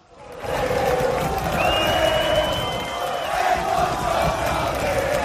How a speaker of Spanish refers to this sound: Cánticos, bengalas y fuegos artificiales para recibir a los jugadores del Oviedo.